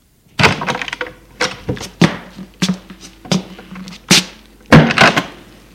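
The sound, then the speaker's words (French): A door being opened: a run of sharp wooden clunks, latch rattles and bumps in quick succession, fairly loud, with no voices. “Henri le soulève par l'épaule, ouvre la porte.”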